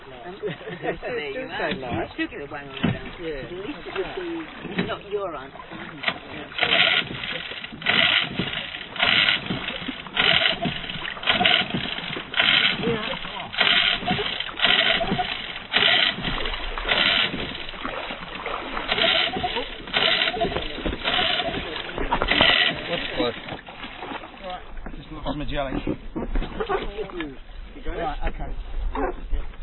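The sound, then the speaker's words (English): A boat engine runs steadily on the water, a continuous rumble with rhythmic surges and wash, while muffled voices murmur underneath. “How do you find the boat?”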